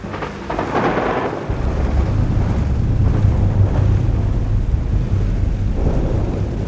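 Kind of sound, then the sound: nature, thunderstorm with thunder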